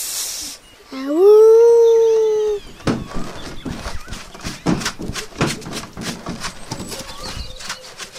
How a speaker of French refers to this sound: Le roi loup entra alors dans une colère folle et rugit après tout ce qui se trouvait aux alentours.